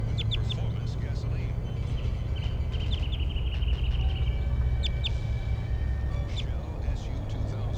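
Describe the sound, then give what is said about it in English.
A wild orange male bird, sitting on a power line above the road at the Animal Behavior Station about 8 meters away, calls with thin, high chirps, scattered singly and in a quick run of repeated notes, faint over a steady low rumble and broad background hiss. “He's calling weekly, stronger now.”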